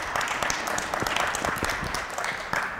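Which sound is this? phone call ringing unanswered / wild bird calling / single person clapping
single person clapping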